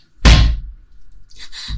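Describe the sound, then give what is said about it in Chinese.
A single loud, forceful slam of the door of flat 1306 in building 16, with a heavy low-end thud that rings out briefly, followed by quieter rustling and shuffling sounds. “关门这么用力，我还以为你不欢迎我呢。”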